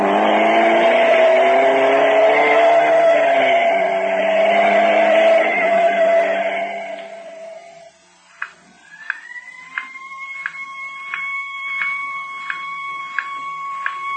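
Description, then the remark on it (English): A heavy engine rumbles for several seconds and fades, then an ambulance siren winds up and holds a steady high wail, with faint regular clicks ticking underneath. “No, it's an ambulance, all right.”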